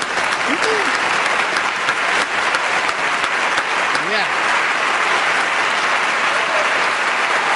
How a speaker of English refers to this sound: Would you please give a nice, big round of applause for …?